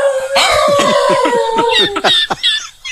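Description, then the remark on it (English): A dog barks in quick, repeated yips while a long, wavering howl rises and holds over them, loud, then trails off into a few final sharp barks. “Dog, how's the dog sound?”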